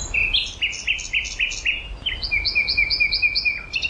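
A nightingale sings alone and clear: a quick series of repeated whistled notes, then a second rapid phrase of bright, higher chirps, with faint low background rumble.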